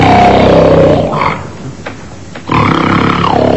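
Loud, rough snoring: a long rumbling, grunting snore, a brief quieter breath, then another harsh, throaty snore. No one speaks.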